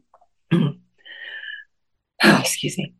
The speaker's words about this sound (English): So the other day, excuse me one second, I've got to clear my throat.